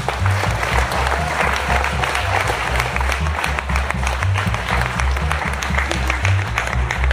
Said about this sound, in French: féliciter encore une fois pour toutes tous ces bénévoles et les applaudir bien fort, je crois qu'on peut leur faire une ovation.